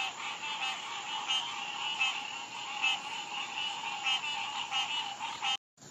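A dense, continuous chorus of many different kinds of frogs croaking and trilling together, some sounding like moose, goats or tiny birds, steady and fairly loud, with no one speaking, cutting off briefly near the end.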